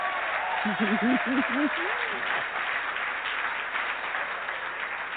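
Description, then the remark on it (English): A crowd applauds in a dense, steady wash of clapping that fills the whole stretch, with a few voices whooping and calling out near the start. “Well, go ahead and clap then.”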